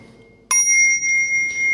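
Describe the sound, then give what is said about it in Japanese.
A temple bell at Saihōji temple is struck once after a brief quiet moment, its bright, high ringing tone sustaining clearly and steadily to the end with no voices present. “かきくえば、鐘が鳴るなり、西方寺。”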